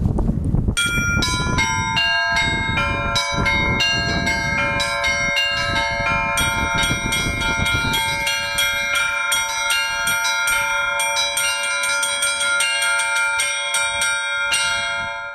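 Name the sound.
church bell tower ringing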